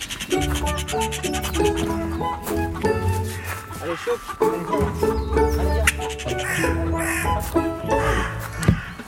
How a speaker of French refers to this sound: ce que je vous propose, vous nous emmenez voir les... Bien sûr. Nos corbeaux. Allez, on y va.